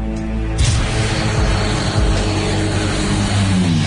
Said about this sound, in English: Powerful and fast, the turboprop Electra is the most advanced airplane in the fleet.